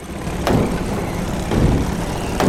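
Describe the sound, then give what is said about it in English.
Bumper cars hum and rumble steadily around a ride floor, with three sharp clunks of cars colliding roughly a second apart over a dense, noisy fairground background. “Ooh, bumper cars. Buckle up, because this monkey doesn't have a license to drive.”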